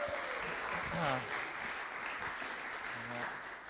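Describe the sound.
A crowd claps steadily to welcome up the evening's speaker, a dense, continuous wash of applause with a few brief voices and cheers mixed in underneath before it tapers slightly toward the end.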